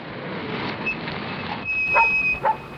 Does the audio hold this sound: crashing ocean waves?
no